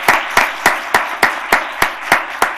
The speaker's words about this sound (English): If you're a board member, would you please stand? And let's suspend the rules and give them a round of applause.